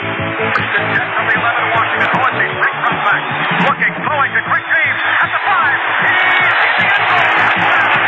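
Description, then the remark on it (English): A huge stadium crowd roars and cheers without pause after Billy Taylor scores a touchdown for Washington, with scattered shouts and whoops rising out of the dense wall of noise. It sounds muffled, like an old broadcast recording. “They're bringing down the house now, and the newest hero is rewarded for his bravery.”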